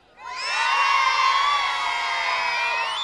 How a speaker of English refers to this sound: There we go. One more big cheer.